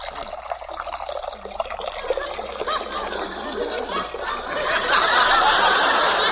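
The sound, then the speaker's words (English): Coffee pours into a cup in one steady stream, a continuous hissing splash that grows fuller and louder toward the end as the cup fills. “Would you care for a cup, Mr. Anonymous? Yes, if it isn't too much bother. I'll pour it for you.”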